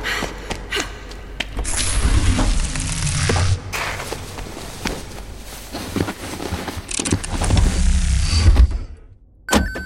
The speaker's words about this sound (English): Central locking engaged. Welcome to the Sordo 4000, your premium flying experience.